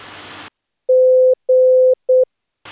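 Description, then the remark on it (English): A clear, steady Morse code tone spells out the letter G (Golf): two long dashes followed by one short dot, loud, with brief bursts of hissing static before and after. “Dus eerst alle gebruikte letters met aankondiging en dan een paar keer het woord.”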